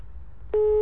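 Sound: busy tone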